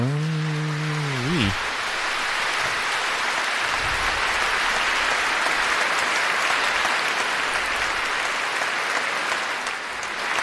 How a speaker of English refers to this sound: Dramatic applause.